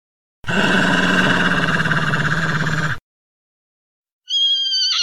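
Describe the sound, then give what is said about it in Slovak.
A wolf growls in one loud, rough, sustained rumble lasting a few seconds, then after a brief silence a short, high-pitched tonal cry follows. “Vlk vyceril zuby a zavrčal.”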